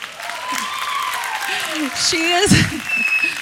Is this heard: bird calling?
no